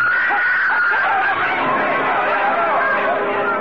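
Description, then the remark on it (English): A dense wedding crowd on a street chatters and murmurs continuously and loudly, with a woman's high-pitched screaming cries rising above the festive babble throughout. “Yu Lang, the groom, stiffened and crumpled at the screaming Nanhua's feet.”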